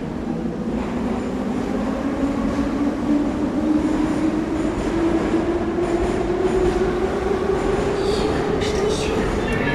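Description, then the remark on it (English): Loud, continuous rumble of a Moscow Metro train in motion, with a steadily rising electric motor whine and clattering wheel noise running through the whole stretch. “He used recordings from their live concerts and noise from places such as Moscow Metro or loud advertising in public places like in Yekaterinburg, and he composed with voice, noise and sound polyphony.”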